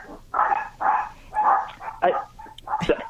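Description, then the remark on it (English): Dogs bark in a rapid, steady series of about seven loud barks, with a couple of sharper yips near the end and no talking. “I hope the dogs weren't hurt.”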